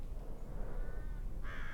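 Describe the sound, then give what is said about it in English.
Begging call of a nearly grown juvenile American crow: a fainter nasal cry followed by a louder, harsher, drawn-out one, over a low rumbling background, in a mixed conifer forest of Douglas fir, ponderosa pine, lodgepole pine and limber pine with open rocky areas. “That last noise appeared to be a begging call of a nearly grown juvenile American crow.”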